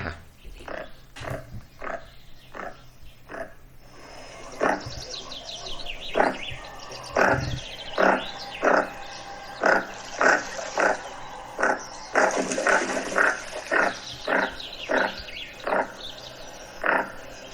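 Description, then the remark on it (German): A male goosander gives a steady series of short, croaking calls at roughly regular intervals, calling to the female, while a chaffinch sings faintly in the background. “Hier kommt der Goose Sender, heißt der im Englischen übrigens, mhm, der Vogel.”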